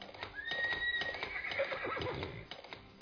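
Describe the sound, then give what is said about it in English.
A horse lets out a loud whinny with a rising and falling pitch while hooves clip-clop steadily underneath, with no voices present, in a radio advertisement for The Ozark Horse Trader. “Let the power of the horse work for you.”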